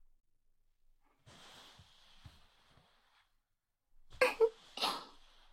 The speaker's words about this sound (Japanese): お兄さん、大きなあくび。眠たくなっちゃったのかな？